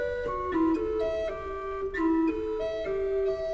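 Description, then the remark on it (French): A pipe organ with a single keyboard plays a short melody on one stop selected at the top of the keyboard, with steady, sustained mid-pitched notes moving stepwise and joined smoothly at an even, moderate loudness, and no talking. “Mais une petite astuce, c'est que dans le haut du clavier, on peut sélectionner un timbre, une couleur sonore, celle-là par exemple.”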